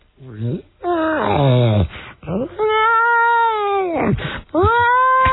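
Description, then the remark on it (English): A voice imitates a child's toy siren with several loud, wailing bursts, each sliding up and down in pitch, the last few held longer with a steady whine before dipping. “The next thing we hear is, sounds like a little kid's toy siren.”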